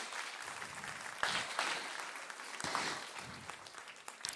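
An audience claps steadily, a dense wash of many hands with brief louder swells, and no one speaks over it.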